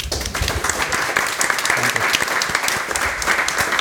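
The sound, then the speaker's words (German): An audience breaks into sustained applause for a woman the host has just thanked, a dense, steady wash of many hands clapping at once, loud and even throughout with no voices standing out. “Und ich glaube, die hat einen Applaus verdient.”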